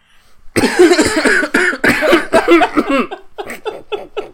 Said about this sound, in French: Attends, je tousse juste une dernière fois.